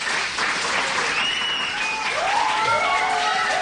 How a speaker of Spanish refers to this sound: Le damos ánimos a Alejandro con un fuerte aplauso.